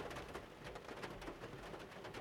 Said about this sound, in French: J'adore les oiseaux.